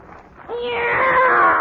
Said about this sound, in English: Meow! It's a cat, Miss Brooks. I brought him over to keep Minerva company.